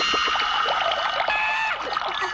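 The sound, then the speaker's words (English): Water pours steadily and splashes, a continuous bubbling, gurgling rush like a bath filling, with no voices over it: a Wonder Twin taking the form of bath water for a weekly bath at the Hall of Justice. “Wonder Twin Powers, activate! Form of bath water.”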